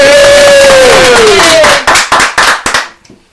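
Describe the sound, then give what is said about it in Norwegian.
A crowd cheers loudly for a world champion from Sørfjorden, with one voice letting out a long whooping shout, then a few sharp claps break through before the noise quickly fades out. “Men det var jo kjempehjertig at, at vi har en som har gena da fra Sørfjorden blir verdensmester, så vi jubler for en Fredrik og Tove.”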